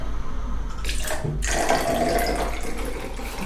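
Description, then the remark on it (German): Water pours steadily from one full glass into a second glass beside it, half of it poured across to leave two equally full glasses, a continuous splashing trickle with a brief shift in tone partway through as the flow changes. No one speaks. “Stelle ich mal ein Glas daneben und dann kannst du ja mal von diesen 100% 50% ins andere Glas schütten.”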